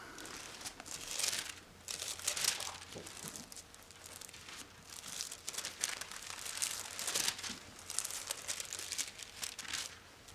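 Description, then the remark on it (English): Thin paper pages rustle and crinkle in repeated overlapping bursts, as many Bibles are flipped open at once to Luke 23, verse 48; a steady papery hiss with no one speaking. “You know, at Jesus' crucifixion, when he was hanging on the cross, in Luke 23, verse 48, let's turn to that.”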